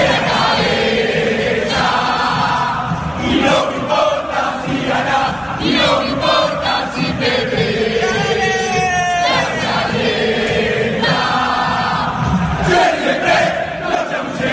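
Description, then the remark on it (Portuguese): A huge crowd of Boca football fans chants and sings together in a stadium, a loud, continuous roar of massed voices with rising melodic shouts that swell and surge throughout. “Mas o torcedor do Boca sabe fazer festa. Ouçam só a torcida do Boca.”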